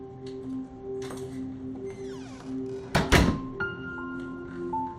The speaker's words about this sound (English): Andy has a key. He unlocks the door.